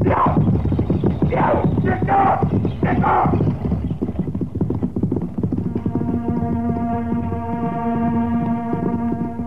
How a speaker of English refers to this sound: Now, what's the idea of making them horses run away? Don't be so dumb, Buck. Them nags won't stop till that buckboard is over the border.